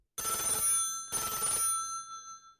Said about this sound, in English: 10 minutes later, the telephone rang.